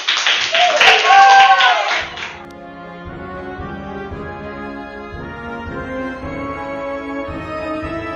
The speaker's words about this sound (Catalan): S'aixequen, aplaudeixen cada vegada més i... Sou els millors pallassos del món! Extraordinari! És el millor espectacle d'aquest circ! Això ha estat un èxit! Un últim aplaudiment per aquests magnífics pallassos!